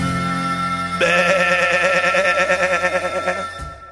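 A sheep lets out one long, loud bleat, its voice wavering rapidly for a couple of seconds after a brief steady tonal hum.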